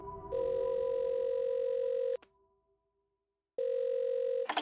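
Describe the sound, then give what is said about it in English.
A telephone ringing tone heard down the line after a number is dialed: a long, steady electronic buzz, a pause of silence, then the tone starting again, fairly loud and with no one talking. “finally I dialed those numbers, expecting my tearful mother to pick the phone up.”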